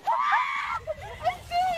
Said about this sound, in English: I'm serious, she say. She's like basically begging for help. Yeah. And her friend's laughing. Laughing. Screaming.